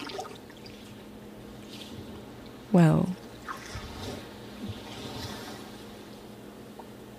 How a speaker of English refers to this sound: so there was some sea sounds.